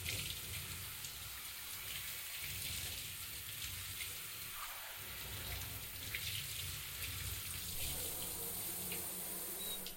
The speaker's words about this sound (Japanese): シャワー熱くないですか？